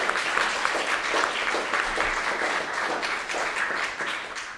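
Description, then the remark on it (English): A crowd at an International Women's Day event applauds the event's key organisers steadily, a dense wash of many hands clapping at once, sustained and fairly loud throughout with no voices standing out. “So if you could just give a round of applause for them.”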